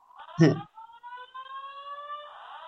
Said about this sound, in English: A long alarm there. Still going, yeah.